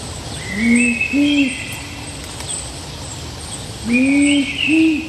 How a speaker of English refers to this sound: Yes, it's the aptly named powerful owl, the largest owl found in Australia and a native species in the country.